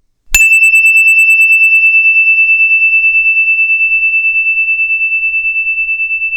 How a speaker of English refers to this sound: And what you could do is, when you hear the story bell go ding, put your arms up in the air. When you can't hear the story bell anymore, put your hands down, and then the story will begin.